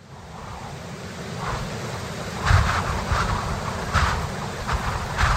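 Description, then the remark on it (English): A tremendous gust of wind that got up within a few minutes: strong wind roars steadily with a deep low rumble, surging into louder gusts every second or so, loud with no voices. “Goodness, what force the wind can get up in a few minutes. What a tremendous gust.”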